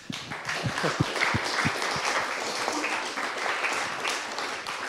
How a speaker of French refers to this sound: Si vous êtes d'accord, on peut les applaudir. Merci.